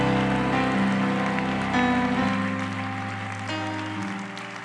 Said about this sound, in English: Would you give that applause to Jesus Christ all over this house? Go ahead, clap your hands like you love him.